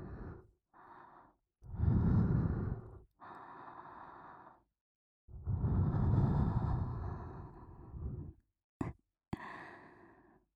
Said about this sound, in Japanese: 熱い吐息ももう一回流し込んであげようか。